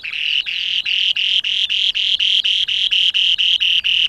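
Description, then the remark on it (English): A male spoon-billed sandpiper's display call, a tiny bird 14 centimetres long with a spatula-shaped bill: a fast, steady series of high, buzzy trilled notes, about four per second, repeating loudly and evenly without pause. “This is the display call of the male spoon-billed sandpiper.”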